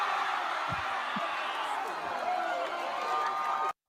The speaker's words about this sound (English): Dude, a confused cheer, that last one.